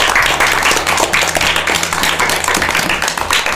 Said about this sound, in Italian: Grazie anche all'aiuto dei dinamici degli RC, grazie mille, fantastici, davvero, facciamogli un applauso per cortesia.